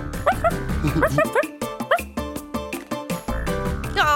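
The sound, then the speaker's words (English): A person mimics a puppy while crawling on hands and knees, with a rapid run of short, high yipping barks, repeated rhythmically over a steady musical backing, loud. “Let's find some room to move around, and like a little puppy, I'm going to crawl on my hands and knees.”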